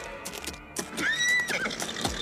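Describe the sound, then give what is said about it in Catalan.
A horse lets out a loud, wavering whinny, with sharp hoof clops sounding before and after it. No one speaks. “En aquell mateix moment, va arribar al castell un príncep d'alt de cavall.”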